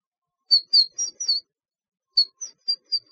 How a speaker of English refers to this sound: Hey, birds.